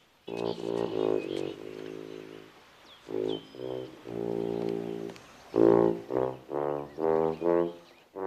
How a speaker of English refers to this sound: Hearing the tuba, he looks around curiously for the source of the noise, then shrugs.